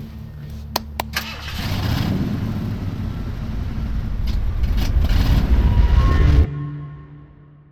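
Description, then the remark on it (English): A few sharp clicks, then a car engine is started without keys and rumbles to life, its roar building steadily for several seconds before cutting off abruptly. “You think this car requires keys?”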